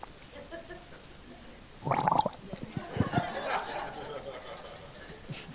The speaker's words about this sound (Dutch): Even een slokje water.